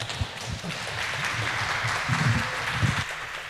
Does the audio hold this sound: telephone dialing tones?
no